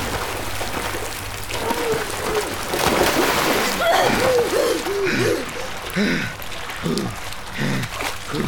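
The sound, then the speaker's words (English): Water splashes and rushes steadily throughout as water that had almost filled a kitchen drains away, a dense wash of sound, while excited voices call out over it in the second half. “The water's falling up. The water's going away.”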